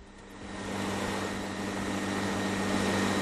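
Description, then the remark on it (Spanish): A huge industrial fan by the Cathedral and the Archivo de Indias in Seville, Spain, runs with a loud, steady roaring whoosh and a low droning hum, swelling during the first moment and then holding constant, with no voices. “Era un grandísimo ventilador que ha dejado boquiabiertos a muchos sevillanos, como este con el que hemos hablado.”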